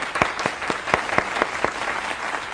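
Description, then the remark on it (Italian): An audience applauds the women's winners of the CDS gold final, Atletica Brescia 1950, steadily, with some individual claps standing out in a loose rhythm over a dense wash of clapping, at moderate loudness and with no one speaking. “Un applauso per favore.”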